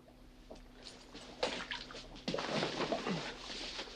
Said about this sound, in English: She flings the car keys past Ben into the fish tank. Ben whips off his jacket, rolls up his shirt sleeve, and retrieves them.